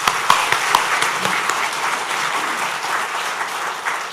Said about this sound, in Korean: 우리 여호수아 중찬단의 찬양을 하나님 앞에 올려드렸는데요, 그 수고하신 분들을 위해서 박수하도록 하겠습니다.